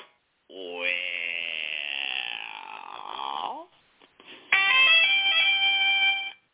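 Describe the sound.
A drawn-out, wavering voice-like tone gives way to a bright, loud electronic correct-answer chime from a game show, its stacked notes stepping upward for about two seconds before cutting off.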